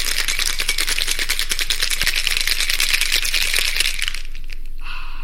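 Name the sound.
cocktail being shaken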